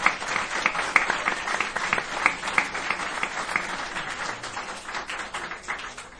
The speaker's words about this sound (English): Can we have a round of applause for Brian on the sound, because he was stellar.